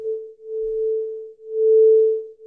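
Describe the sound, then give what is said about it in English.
A single steady pure tone pulses slowly in loudness, swelling and fading about once per second, the classic wah-wah beating of two nearly matched sine waves sounding together, one at A440 and a slightly out-of-tune one at A441. “And here is our second slightly out of tune sine wave joining it at A441.”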